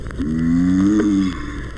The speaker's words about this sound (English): This is the mating grunt of the giant tortoise.